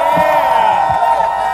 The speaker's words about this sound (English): I love my people. Let me hear you roar. Yeah.